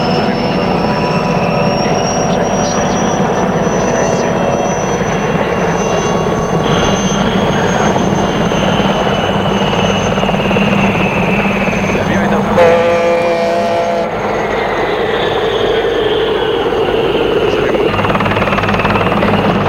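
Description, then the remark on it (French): A loud, steady mechanical roar of helicopter rotors over the sea fills the whole stretch, dense, with a brief rattling surge near the middle before the drone settles again. “C'est la mer, des bateaux de guerre de tous les pays, des hélicoptères, même du Vatican.”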